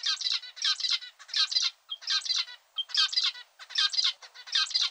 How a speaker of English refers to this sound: Much more interesting for us female zebra finches is how well a male can sing. Just listen to this guy. Doesn't he sound beautiful?